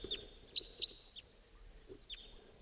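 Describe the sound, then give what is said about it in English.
A wild bird calls with four short, high, clipped notes, three in quick succession and one after a pause, over a faint steady hiss and low rumble, with no talking. “It's 5:37, wild bird coming in.”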